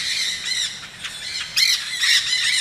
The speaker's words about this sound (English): Here come a platoon of green parakeets, by far the most jarring with their shrieking.